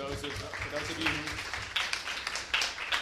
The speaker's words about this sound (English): I want to thank Cabinet and Sina Najafi especially for hosting us. Let's have a little round of applause for Cabinet.